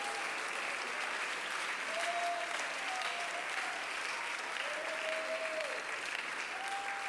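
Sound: audience clapping hands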